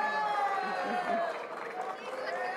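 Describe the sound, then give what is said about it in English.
A crowd of many voices at CPAC shouts and yells over one another in a loud, unbroken roar, shouting down a young former French politician named Le Pen and chasing her out of the building; the overlapping cries hold steady with no clear single speaker. “So they're shouting her down and they're chasing her, you know, basically chasing her out of the building.”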